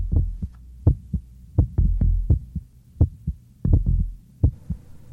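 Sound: heartbeat sound effect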